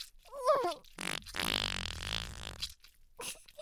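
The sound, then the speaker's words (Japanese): A long, loud, wet-sounding fart rips out, sputtering and buzzing for over a second, preceded by a brief breathy vocal sound and followed by a few softer trailing noises. “おならかけて幸せそうだね。”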